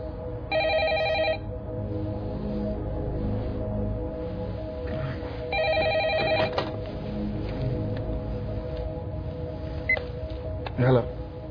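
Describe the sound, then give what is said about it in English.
A telephone rings twice, two short trilling bursts about five seconds apart, clear over a steady low background hum with faint, indistinct voices. “Can I use your phone?”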